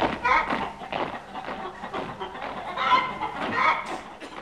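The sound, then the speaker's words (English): A chicken clucks busily and continuously for a few seconds, a fairly loud run of short, choppy squawks with no pause between them. “Chicken, chomp, quick, march!”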